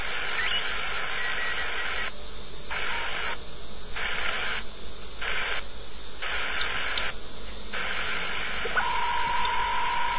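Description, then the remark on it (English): Dense digital mode data tones around 3575 on a shortwave receiver fill a hissy band, chopped into bursts with brief gaps, and a steady single tone rises near the end; no one speaks. “Some digi signals up there on 3575.”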